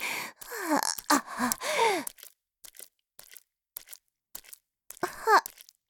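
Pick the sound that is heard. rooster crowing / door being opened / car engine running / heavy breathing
heavy breathing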